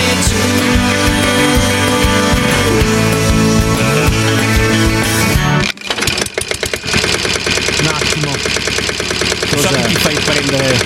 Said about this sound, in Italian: Ho messo in moto.